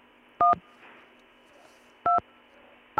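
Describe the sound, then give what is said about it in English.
Loud electronic keypad tones beep over a phone line: a short double bleep, a pause, then another pair, with a third starting at the end, over a steady low line hum. “Somebody was bleeping on the phone there.”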